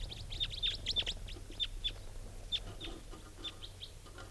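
bird calls

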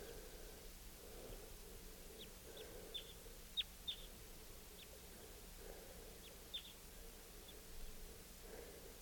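wild bird calling

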